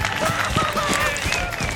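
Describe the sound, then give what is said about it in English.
A crowd at a football training camp cheers and yells steadily as a long pass play goes for a score, a dense wash of many voices with scattered shouts and some clapping, fairly loud and sustained for the whole short stretch. “Cutler and Marshall would hook up for this long play that went for a score, drawing big cheers from the crowd.”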